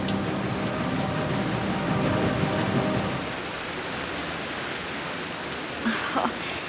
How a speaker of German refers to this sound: Das hört ja gar nicht mehr auf mit dem Regen. Wo kommt denn nur all das Wasser her? Das muss doch mal ein Ende nehmen.